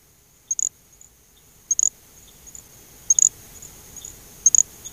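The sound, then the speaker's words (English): A little grass frog gives very high, thin insect-like chirps, four short bursts of quick double or triple pulses spaced about a second apart, clear over a faint hiss. “The call of a little grass frog resembles a very highly pitched buzzing insect.”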